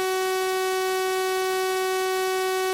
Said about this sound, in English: So let's keep the frequency the same, but change the shape of the sound wave. Instead of a nice, pure tone called a sine wave, let's make the sound a little harsher by making it into what's called a sawtooth wave.